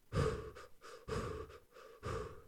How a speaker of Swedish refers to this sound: Men han sa att när man liksom springer lite på plan mark så håll takten. Men den, när det blev lite jobbigare då skulle man andas ungefär så här.